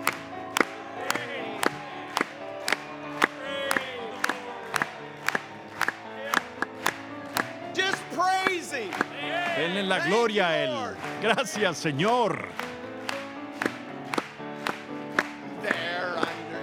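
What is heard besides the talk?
audience applauding and cheering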